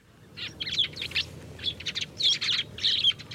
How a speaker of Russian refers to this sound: Слышите, воробьи скандалят? Слышу. Слышу, слышу.